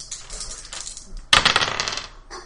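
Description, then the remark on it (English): A quiet rustle, then a sudden hard clatter as two dice tumble and rattle across a tabletop, settling after about a second. The sound is fairly loud, with no one talking. “So you move it to my chest. I roll my two dice.”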